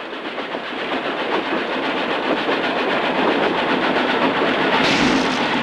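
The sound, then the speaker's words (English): A moving train rattles steadily along the rails, a loud, continuous clatter with rhythmic clicking and a rising rush of wind and noise near the end, heard from inside a train car whose door is open to bitter, icy wind while men shovel straw out. “quickly shovel the straw out of the moving train, then slide the door shut.”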